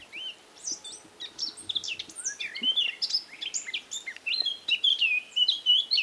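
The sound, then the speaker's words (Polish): A male blackcap sings a continuous string of notes, scratchy and grating at first, then shifting into clearer, melodious whistled phrases, high-pitched and moderately loud with no talking. It sits low above the ground in dense cover. “I właśnie samczyk, jak było powiedziane na jednej z płyt z głosami ptaków, rozsyła wiązankę zgrzytliwych dźwięków przechodzących w piękne, melodyjne tony.”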